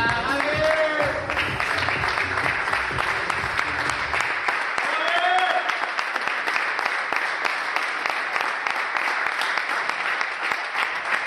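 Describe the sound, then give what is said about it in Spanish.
Sustained applause from Xavi and Gavi's FC Barcelona teammates, clapping steadily for about ten seconds in the gym at the club's training ground as Gavi arrives, with a couple of voices calling out over it in the first few seconds. “Esta mañana Gavi ha acudido a la ciudad deportiva del Barça, donde ha sido recibido con aplausos por parte de Xavi y del resto de sus compañeros en el gimnasio.”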